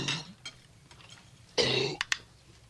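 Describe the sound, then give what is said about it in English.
A dog under a dinner table retches and hacks up a bone: a rough gagging heave, a quieter pause, then a louder harsh burst followed by two short sharp coughs. No voices. “Oh, he's just yakking on a bone. He got it up.”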